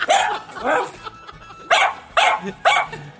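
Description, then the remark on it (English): A dog barks about five times in short, sharp bursts, loud, with brief pauses between them and no one talking. “Sound like my dog.”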